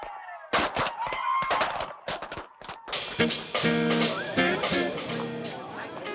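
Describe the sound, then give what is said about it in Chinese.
A rapid series of sharp fireworks bangs from a fireworks display in New York bursts out over a couple of seconds, then gives way to a dense, continuous wash of crackling and rumbling with tonal layers running underneath. “你觉得今日嘅烟花点话 ？”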